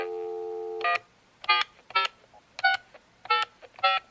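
A steady telephone dial tone cuts off, followed by six distinct touch-tone beeps pressed in a quick, slightly uneven rhythm as someone dials a phone call, clear with no voices.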